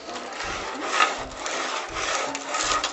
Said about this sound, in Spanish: De pronto oyeron rasguños en el techo.